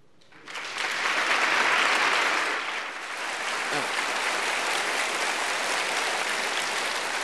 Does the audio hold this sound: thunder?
no